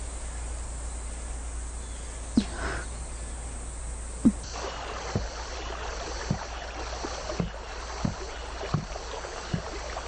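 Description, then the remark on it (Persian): A rowboat glides through water, with soft rhythmic oar splashes and knocks repeating about once a second over a steady bed of water noise and faint insect hum; no voices. “یه قایق برامون آماده کرده، باید بریم.”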